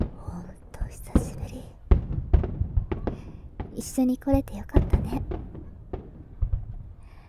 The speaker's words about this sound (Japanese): 綺麗だね。あれ言っておかないと。たーまやー。やってみたかったの。こんな風に花火見るなんて。